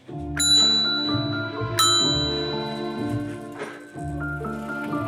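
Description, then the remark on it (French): A bell rings out several times, each strike sharp and bright with a long shimmering resonance that overlaps the next, rich in sustained overtones, fairly loud. “On y va pour la sonnerie déjà.”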